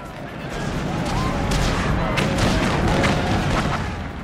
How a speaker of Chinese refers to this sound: 对于自己亲身经历过或者是有朋友经历过那场战役的人来说，瓜达尔卡纳尔不是一个名字，而是一种情感，令人回忆起誓死的空战、激烈的夜间海战、紧张繁忙的供给和建筑、泥泞丛林里面的原始搏斗，还有被呼啸而过的炸弹和震耳欲聋的爆炸声惊醒的夜晚。